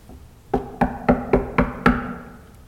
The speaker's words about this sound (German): Der Herr klopft an.